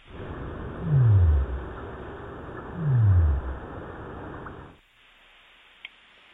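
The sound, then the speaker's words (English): Two deep, low downsweeping sei whale calls, each about half a second long and spaced roughly two seconds apart, rise loud over a steady hiss of ocean background noise that then cuts off to near silence. “That is a say whale.”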